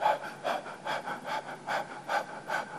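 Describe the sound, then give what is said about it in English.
A person imitates a little baby's quick breathing: about seven short, airy puffs in a steady rapid rhythm, moderately soft, with no talking. “And little babies, they breathe really fast.”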